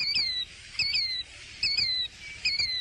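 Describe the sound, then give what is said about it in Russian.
A bird calls four times in a steady rhythm, each call a clear, high, slightly falling whistle, with no one talking. “Незнакомая мне птица. Здравствуй, птица! Я тебя увидала. Скажи, это ты сейчас кричала?”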